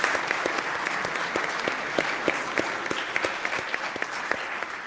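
An audience applauds steadily, a dense wash of many hands clapping with sharp individual claps popping out irregularly, moderately loud and sustained throughout without any talking.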